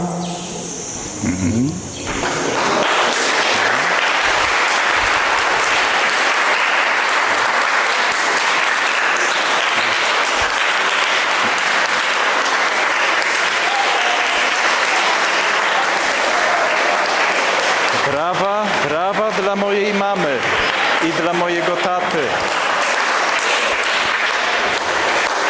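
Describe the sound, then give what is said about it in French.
An audience breaks into loud, sustained applause for the speaker's mother and father, holding steady for over twenty seconds, with a few cheering voices rising above the clapping toward the end. “Ce sont les applaudissements pour ma mère et mon père.”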